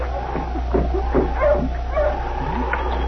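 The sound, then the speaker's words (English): Sled dogs of a dog team yip and bark in short, uneven bursts over a steady, high whimpering whine, with a muffled, narrow-band quality and no talking, as Sergeant Preston's team, with his dog King, stops in front of a trading post in Selkirk after coming down from Dawson. “It was the first part of the following week when Sergeant Preston and King, coming down from Dawson, stopped with the dog team in front of the trading post.”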